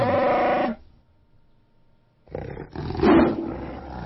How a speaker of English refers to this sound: Oh no, that was a lion. Yeah, that was a lion. I think that was MGM trying to slip their logo in there. That was a lion. Anyway. See, even the lion had more character, like more emotion in it, in his growl. It sounded like a real animal.